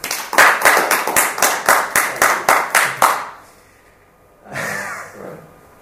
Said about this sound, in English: Big round of applause.